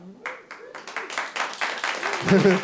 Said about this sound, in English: The way I said that, I don't know which one they're applauding for.